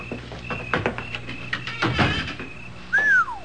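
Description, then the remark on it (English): A couple of sharp mechanical clicks as a light switch near the door of a large old house rented every summer is flipped, followed by a brief clunk and a rising-falling creak. “I think there's a light switch right near the door.”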